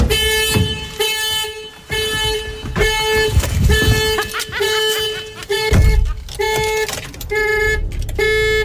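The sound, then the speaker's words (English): A car alarm horn honks over and over in short, loud, evenly spaced blasts after the car is unlocked manually because its remote has stopped working, at 3:30 a.m. in a large car park of a unit complex, the beeps continuing steadily with faint background noise between them. “My car remote has stopped working, so I have to unlock it manually. And every time I do, this happens.”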